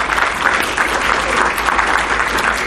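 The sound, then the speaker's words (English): A crowd applauds the Catholic schools present at an event, a dense wash of many hands clapping at once, loud and sustained with no pause for the whole stretch. “Let's give them all applause.”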